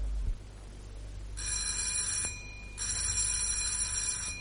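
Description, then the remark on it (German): An electric doorbell at Dr. Winkel's door rings in two long, shrill bursts with a brief gap between them, fairly loud, over a low background hum with no one speaking. “Wenig später klingelt Martins bei Dr. Winkel.”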